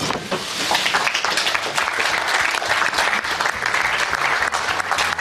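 applause

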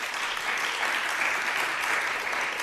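audience clapping

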